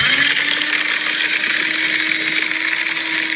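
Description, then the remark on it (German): A paper shredder runs steadily and loudly, a continuous motorized whir with a constant low hum and a harsh, hissy grinding layer, and no voices. “Es ist ein Papierzerhäcksler.”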